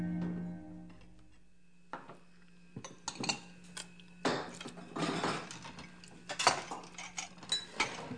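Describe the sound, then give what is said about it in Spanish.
Dishes and cutlery clink and clatter during washing up, a run of irregular sharp knocks and scrapes growing busier toward the end, with a low steady hum underneath and no talking. “Bueno, pues ya lavé todos los platos.”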